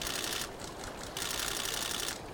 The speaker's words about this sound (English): and photographers with foot-long lenses clicking away as they watch the raptors.